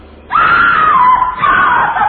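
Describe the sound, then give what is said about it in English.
A doorbell sounds with a loud, drawn-out scream instead of a chime: one sustained, wavering shriek starting abruptly and holding strong for nearly two seconds, with no talking. “Didn't you hear a scream? Ah, no. You heard scream. More experience here. A doorbell.”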